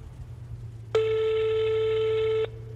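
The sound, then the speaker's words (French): A single steady ringback burst from an outgoing phone call made by a man on the road trying to call his wife, a flat mid-pitched electronic tone lasting about a second and a half, starting and stopping abruptly over a low background hum. “Sur la route, il essaye de l'appeler.”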